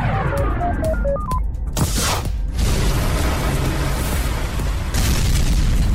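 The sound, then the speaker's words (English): A test rocket crashes and explodes. A few short tonal beeps come first, then a deep booming blast and a long roaring rumble of debris, loud throughout with no talking. “The test rocket crashed.”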